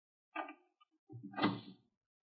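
The door of a laboratory on the top floor is pushed open, found unlocked: a short, reedy creak, a brief pause, then a longer, louder groaning swing with a low rumble underneath. No one speaks.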